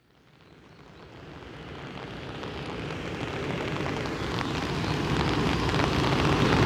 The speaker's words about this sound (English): there's rain pitter-pattering as well, but I'm at the Changjian Falls, the $2 waterfall near my hotel